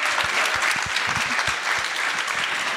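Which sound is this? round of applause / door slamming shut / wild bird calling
round of applause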